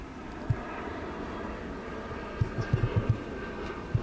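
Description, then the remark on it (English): An airplane drones overhead in a steady, broad roar that fills the whole stretch, with a few soft low thumps scattered through it and no one speaking. “Planes are killer.”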